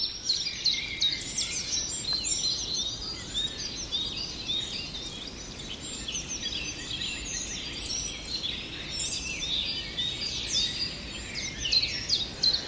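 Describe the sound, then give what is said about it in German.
High, thin bird aerial alarm calls repeat rapidly among a dense chorus of chirps, steady throughout with a low outdoor rumble underneath and no voices. “Da sprechen wir eher über die Luftalarme.”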